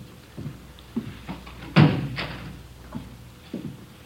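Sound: door being closed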